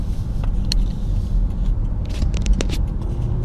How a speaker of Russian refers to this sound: Тут. Да, тут строительство идет. И давайте я вам покажу.